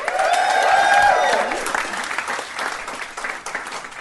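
An audience at the European Beer Cafe claps and cheers, a loud burst with a few whoops over dense clapping that thins out and fades over about four seconds.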